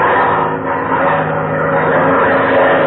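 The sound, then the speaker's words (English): A loud, steady propeller-plane engine drones as the plane pulls up and then dives low in front of a stampeding herd, its rough buzzing roar holding almost constant throughout with no voices over it. “All right, now I'm pulling up, and then down we go, right in front of them.”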